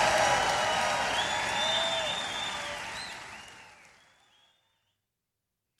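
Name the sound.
crowd cheering and applause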